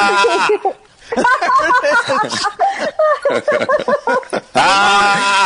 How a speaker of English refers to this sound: Sounds like somebody got you with a cattle prod. It's more of a yell. You sound like a goat. Yeah, you do.